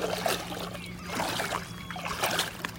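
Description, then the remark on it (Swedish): Water laps and trickles in soft, irregular little splashes over a steady low hum, with no one speaking, at the bathing spot in Linanäs on Ljusterö, where some people have come for a morning swim. “Ja, nu har jag kommit ner till vattnet.”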